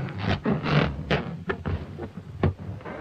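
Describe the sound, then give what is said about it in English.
Fingers rub across a balloon to create a sound effect, making a string of rubbery squeaks and creaks in uneven bursts, fairly loud, with no talking. “The sound of fingers being rubbed on a balloon.”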